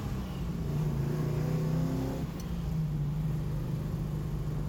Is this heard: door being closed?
no